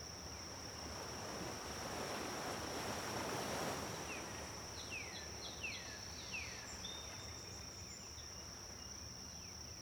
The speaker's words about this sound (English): Breathe deeply here, near the gentle ocean.